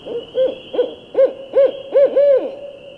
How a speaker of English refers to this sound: I'd paint in the lift for hours and hours, oblivious to the passing time, until the caterwauling calls of a barred owl, like a giant squeegee being dragged across a window, echoed through the lobby and interrupted my reverie.